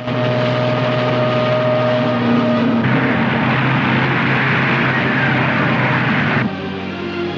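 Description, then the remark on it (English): A plane roars past, flying fast and low over cliffs, its engine a loud, steady drone with a low hum. The pitch shifts partway through, then the roar drops off near the end. “Grant flies fast and low over the cliffs.”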